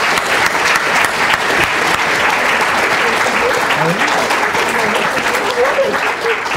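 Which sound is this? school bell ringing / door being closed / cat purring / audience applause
audience applause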